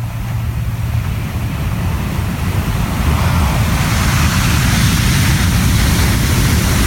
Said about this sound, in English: The waves outside of our window, they crashed like thunder. It literally sounded like a train was going by every night. Here's a little sample.